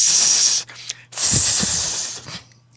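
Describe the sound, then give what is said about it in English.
A voice imitates a snake with two long, breathy hisses, a short one followed by a longer one after a brief pause, close and fairly loud with no words. “What sound the snakes make?”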